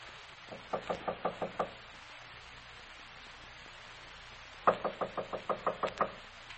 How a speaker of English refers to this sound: I'll knock. Oh, the door's open.